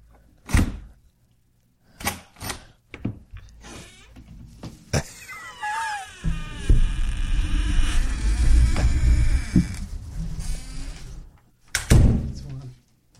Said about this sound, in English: Mackie, what is heaven like? If you love it. Open and close the door 12 times. If you don't like it, Mackie, open and close the door 42 times.